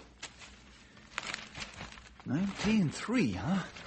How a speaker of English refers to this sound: I'll just put this stack of papers over where we can spread them out.